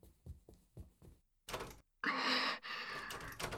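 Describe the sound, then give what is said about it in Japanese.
A few quick rhythmic knocks give way to loud metallic rattling and thumping as a person trapped in a room yanks hard at the handle of its locked door, jolting in bursts without opening. “ダメ、鍵かかってる。”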